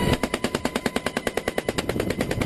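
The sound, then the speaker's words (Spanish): Rapid, sustained machine gun fire by two soldiers in a helicopter in Colombia, during the commando operation that captured drug lord Otoniel, a steady stream of about twenty sharp bursts in just over two seconds, loud and even in rhythm, with no voices. “Estos son dos soldados en un helicóptero, ametralladora en mano, ya lo escuchas, miembros del comando de más de 500 personas que ha dado caza a este hombre, conocido como Otoniel,”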